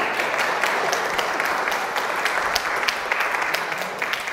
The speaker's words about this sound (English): You can clap. It's okay. You can clap.